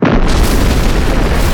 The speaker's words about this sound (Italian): Nel frattempo, sulla piattaforma regnava il caos e andò via l'elettricità. A questo punto ci fu l'esplosione.